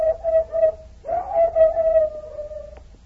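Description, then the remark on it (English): A hound pup named Lady Anne bays: a brief pulsing cry, then a long, drawn-out, slightly wavering howl held at a steady high pitch. It is loud and clear, with no talking. “Why, Anne's got a bugle voice.”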